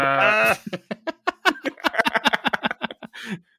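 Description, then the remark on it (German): A goat on a goat farm bleats loudly, starting with a long wavering cry that breaks into a rapid, stuttering run of short bleats, with no other sounds around it. “Irgendwo hört einer auf seinen Ziegenbauernhof, seine Ziege.”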